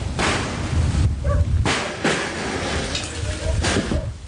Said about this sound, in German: Holz splittert, als der eiserne Rambock zum zweiten Mal gegen die Tür kracht. Ein dumpfes Donnern, dann springt sie aus den Angeln.